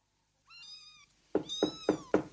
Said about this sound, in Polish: O, Kicia. Boże, jaki chudy.